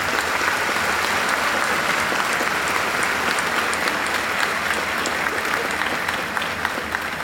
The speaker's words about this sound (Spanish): y por supuesto a sus padres o tutores por el apoyo y el amor que les dan incondicional y que son parte fundamental de este logro, para los cuales yo les pido un fuerte aplauso también, que son tan grandes.